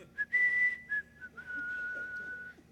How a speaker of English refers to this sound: And we come across that commandment. We love the other nine, and then we hear that, and we put our hands in our pocket, and we start to whistle.